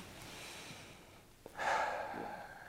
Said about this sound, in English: it's amazing how the entire body responds to that breath. I think that's really powerful.